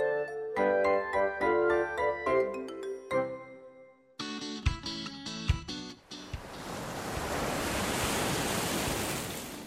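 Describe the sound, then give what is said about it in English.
A short melodic music cue plays, then gives way to a steady rush of ocean surf, waves washing onto a beach for several seconds, fairly loud, with no voices. “Little Sea Turtle hatched from her egg on a beach. Let's hurry to the sea.”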